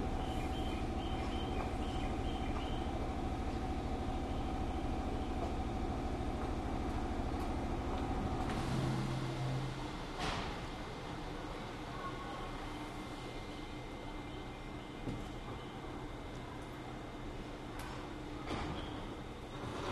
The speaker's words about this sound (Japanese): 6番線に停車中の電車は5時49分発上りの行きです。発車までしばらくお待ちください。